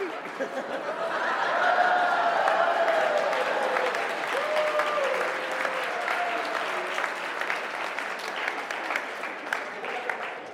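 A church audience breaks into sustained applause during a sermon, a dense steady patter of clapping lasting around ten seconds, with scattered whoops and a bit of laughter mixed in before it gradually thins.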